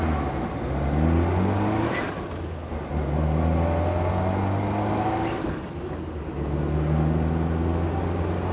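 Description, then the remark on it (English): A petrol car engine revs up and shifts through gears several times while driving through a town with many traffic lights, its droning pitch climbing and dropping in repeated waves, heard loud from inside the vehicle with no talking. “How much petrol are we not going to have in this car in a minute?”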